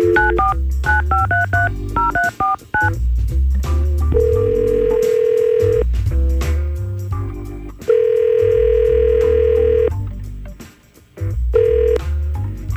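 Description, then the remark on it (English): Radio hosts place a phone call to a listener: a rapid run of phone keypad dialing tones gives way to long, steady ringback tones repeating at regular intervals, loud and clear with no one speaking. “let's try to call Angie right now and see what's up”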